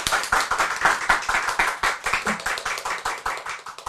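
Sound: audience clapping hands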